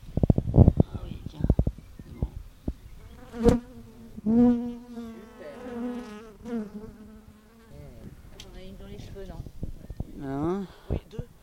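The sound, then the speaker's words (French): Bees buzz in a wavering drone that rises and falls in pitch, after a burst of sharp clicks and knocks at the start, with faint voices. “Et alors, est-ce que tu peux me refaire écouter les Oh abeilles?”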